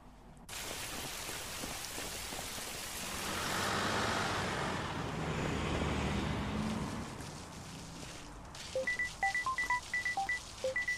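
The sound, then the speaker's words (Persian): A bus rumbles and hisses through street traffic, its broad engine noise swelling, then fading as it pulls away. A quick string of short, high chirping beeps follows. No one speaks. “وای که چقدر نزدیک بودم، میتونستم به اتوبوس برسم.”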